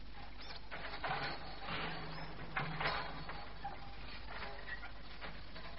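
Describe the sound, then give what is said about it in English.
A hand winch cranks steadily to haul 100-gallon casks out of the scrub and up, its ratchet giving off a fast run of dry mechanical clicks and rattles at moderate volume, with no voices over it. “The casks are hidden in the scrub and they winch them out and up.”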